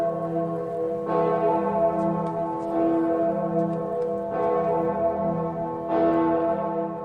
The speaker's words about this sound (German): Von der weltberühmten Gloriosa-Glocke am Erfurter Dom. Aber seid nicht enttäuscht, wenn das nicht klappt, denn die Gloriosa-Glocke, die wird nur an 8 hohen Feiertagen im Jahr geläutet oder wenn zufällig gerade im Dom ein Priester geweiht wird.